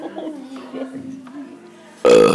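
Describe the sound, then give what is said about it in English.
A long, low, croaking burp after eating, drawn out for about two seconds, wavering in pitch, then cut off by a sudden loud, harsh burst of noise. “Well, folks, we've just eaten, so...”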